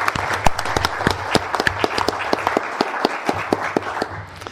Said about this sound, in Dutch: Ik denk dat ook in dit gezelschap een klein applaus voor de heer Nijland nog op zijn plaats is.